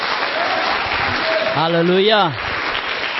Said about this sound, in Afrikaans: Gee lekker aan een klap voor hom.